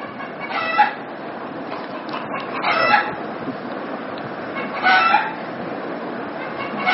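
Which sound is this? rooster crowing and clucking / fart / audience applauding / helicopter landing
rooster crowing and clucking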